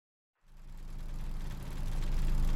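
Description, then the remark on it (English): An amusement park ride car's motor idles with a low, steady mechanical rumble and hum. It starts abruptly after a brief silence and swells slightly louder toward the end, with no voices. “Okay, I guess we get into this really kind of scary car. Buckle ourselves in.”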